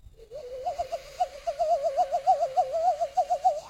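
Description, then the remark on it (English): A person imitates a bird with a steady warbling call, a hooting, whistle-like tone that wobbles quickly in pitch for several seconds. It sounds clear, with no talking. “Getting all your friends to learn how to bird call?”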